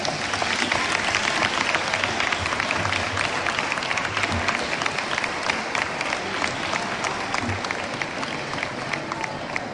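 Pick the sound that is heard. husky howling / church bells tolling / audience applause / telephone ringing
audience applause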